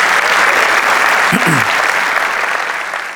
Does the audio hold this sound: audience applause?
yes